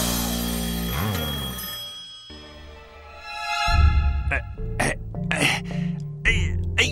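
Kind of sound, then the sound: household object, telephone ringing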